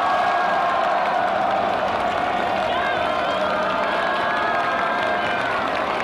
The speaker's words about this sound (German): Und jetzt bricht der Jubel aus.